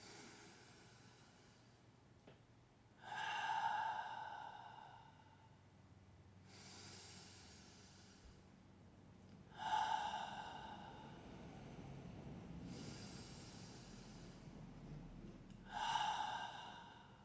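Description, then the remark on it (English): Three slow, deep breaths, each a loud airy inhale followed by a softer, longer exhale, evenly spaced about six seconds apart, with no talking. “Let's just take three breaths as a single organism on this planet.”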